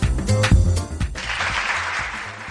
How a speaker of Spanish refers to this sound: Y este aplauso